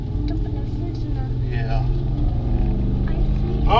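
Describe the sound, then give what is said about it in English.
A truck rumbles past, its heavy engine drone loud and steady throughout, swelling slightly toward the end, with faint voices in the background. “Mom, wasn't that the truck we heard?”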